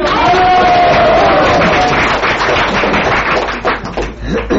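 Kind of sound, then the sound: crowd, audience applause and cheering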